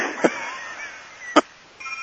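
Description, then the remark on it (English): A phone rings with short electronic tones: two brief chirps spaced about a second apart, then a steadier tone starting at the end, fairly quiet over a faint background hum. “Someone's phone's ringing.”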